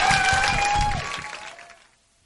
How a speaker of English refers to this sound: Please give a big, big round of applause. Very funny.